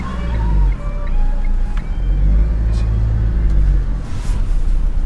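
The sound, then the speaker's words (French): A car engine idles at a roadside police check near the church of Val-des-Prés, a steady, heavy low rumble, a continuous drone that holds for the whole stretch with faint higher tones and light clicks above it. No one speaks. “Vous pouvez couper le contact, s'il vous plaît?”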